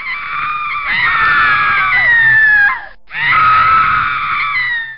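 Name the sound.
fearful human scream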